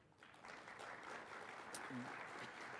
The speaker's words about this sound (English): and I don't know how many of them are here, but you can all give them a round of applause.